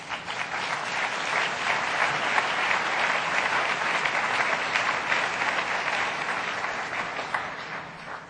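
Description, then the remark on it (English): Sustained audience applause for the partners of ANDE, a dense steady clatter of many hands clapping at even loudness for several seconds, with no voices rising above it. “Give them another hand.”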